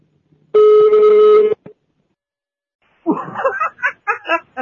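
A single loud electronic telephone ring lasts about a second, then a pause, then someone breaks into bursts of laughter.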